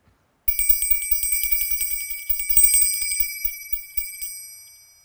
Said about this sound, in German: Hört nur, die Glockenblume bimmelt. Dann bin ich schon wieder dran.